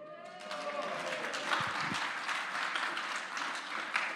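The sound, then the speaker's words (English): A crowd claps in a dense, steady burst of applause lasting several seconds after a reading of the genealogy of Jesus, the hiss of many hands holding an even loudness throughout, with a few low thumps partway through. “Save your applause.”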